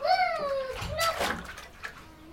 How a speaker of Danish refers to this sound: Der er ikke noget så hyggeligt som at bade.